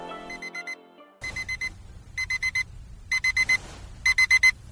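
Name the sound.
alarm clock ringing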